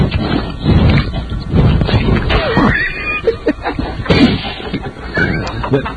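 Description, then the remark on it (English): Wet, smacking kissing sounds with a dog, mixed with snuffling and a couple of brief rising whiny tones, fairly loud and continuous over several seconds. “I'll be quiet just to get the sounds of the kissing.”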